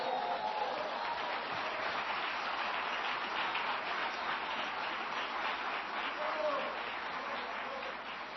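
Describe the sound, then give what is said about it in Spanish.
An audience claps together in praise of the Lord during a church sermon, a dense, steady wash of applause holding at an even level for several seconds before easing slightly at the end, with faint voices mixed in. “¿Cuánto le dan palmas de alabanza al Señor?”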